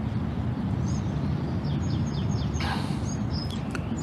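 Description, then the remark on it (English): Several birds chirp outdoors in sunshine in short, high, repeated calls scattered across a steady background of wind or ambient rumble. “Hear the birds?”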